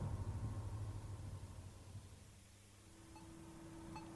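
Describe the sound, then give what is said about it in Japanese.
Low engine rumble from a long line of cars, with a steady motor hum rising partway through as the traffic finally begins to move shortly after 11 p.m. The sound is moderately loud and continuous, with no voices. “ようやく車の帯が動き出したのは時計が23時を回った頃だった。”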